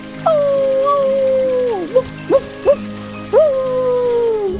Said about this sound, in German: Reika heulte. Offenbar rief sie ihn zu sich.